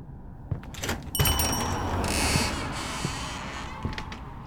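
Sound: door creaking open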